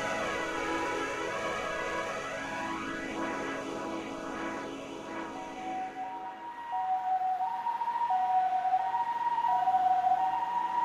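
A loud ambulance siren wails continuously, its pitch sweeping up and down, then shifts to a steady two-tone hi-lo pattern as it passes by on a humid late-summer early afternoon. No one speaks.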